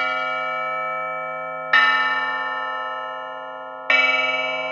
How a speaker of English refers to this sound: It's just a regular triangle found in a little percussion kit. It doesn't sound very scary, but record it on your computer, slow it down a little.